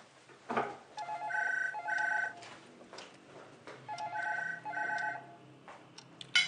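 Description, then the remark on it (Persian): A telephone rings in two double bursts, each pair of short trilling rings followed by a pause, fairly clear with faint background noise and no talking. “با من کار دارم، تو این ساعت منتظر تلفن بودم.”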